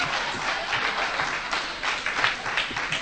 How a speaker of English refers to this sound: We all do this, and we all applaud